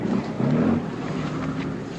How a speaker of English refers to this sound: Then a ride on a combat support boat through cornfields where the brown flood water is 20 feet deep.